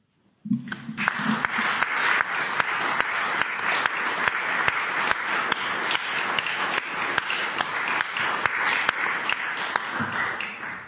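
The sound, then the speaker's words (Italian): An audience breaks into sustained applause, a dense, steady wash of many hands clapping that holds at an even, fairly loud level for about ten seconds before starting to fade. “Avete ancora la forza anche di applaudire, un segno veramente escatologico.”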